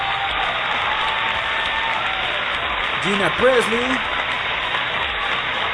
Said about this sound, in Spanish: Y esta mujer preciosa, esta mujer hermosa, no es otra sino Gina Presley, banda, una ovación, como de que no.